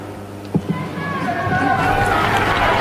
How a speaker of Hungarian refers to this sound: Kedves Mária Rádió hallgatók, a szokott módon nagy vihartaps köszönti a Szent Atyát. Ezzel búcsúznak el ők is a Szent Atyától, és mi is a kedves hallgatóktól.